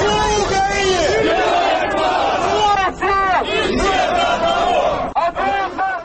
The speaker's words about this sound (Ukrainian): В Любліно майже пліч-опліч виступали прихильники так званої Новоросії, які вигукували гасла «Руський Крим – вікно в Європу», і ті, хто підтримує Україну.